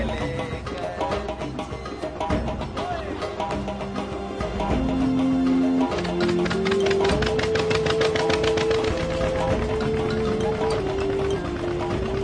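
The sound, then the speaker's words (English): A boat's motor drones steadily with a rhythmic knocking pulse, holding a constant loud level throughout, with no voices, as the boat travels from island to island along waterways. “Traveling on boats from island to island, these men are bringing the light of Christ into the darkness of these hidden waterways.”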